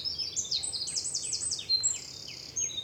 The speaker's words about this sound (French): Ah, les troglodytes, les fauvettes. Les mésanges, voilà, et les merlettes, les merles qui viennent gratter un peu partout. Je suis entourée d'oiseaux, ça c'est sûr.